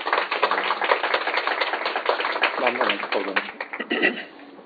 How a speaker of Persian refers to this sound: با تشویق خودشون بکنن.